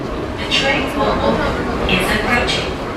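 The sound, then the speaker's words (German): A subway train rumbles steadily through a station in Seoul, with a few brief hissing, screeching bursts from the wheels or brakes over a murmur of indistinct commuter crowd voices. “Dann schieben sich endlose Pendlerschlangen durch lange Rolltreppen in die Züge der U-Bahn.”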